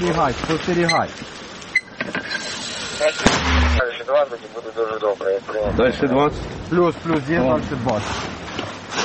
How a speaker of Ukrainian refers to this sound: Вогонь. Постріл!